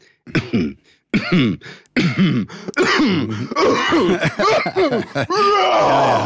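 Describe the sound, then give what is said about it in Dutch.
A person imitates the small throat-clearing cough a wife always makes before saying something, with several short coughs in quick bursts that run into voiced, speech-like noises. “Of als je merkt dat je echtgenote altijd een klein kuchje doet voor ze iets zegt.”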